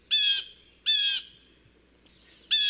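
Three loud, harsh squawks from a bird, each a short raspy burst, spaced about a second apart with quiet between them. No voices are heard.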